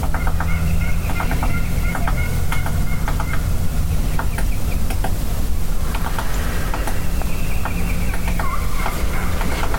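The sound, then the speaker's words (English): Turkey hens cluck in short, scattered bursts throughout, some clustered in quick runs, over a steady low rumble, with no one speaking; heard from a small knoll looking down on the hens. “Peak of the hill looking down on the hens.”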